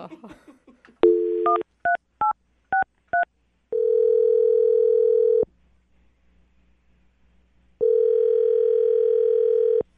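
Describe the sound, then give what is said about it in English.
After a brief murmur of voice, a phone tone sounds as someone dials a phone number to make a call: four quick dialing beeps, followed by long, steady ringing tones separated by a pause of silence, loud. “I'm going to dial his phone number now, and you can make your phone call, okay?”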